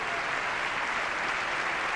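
A standing audience applauds steadily after a presidential speech line calling to raise the federal minimum wage to $9 an hour, a dense wash of many hands clapping at an even, sustained level with no pauses and no voices standing out.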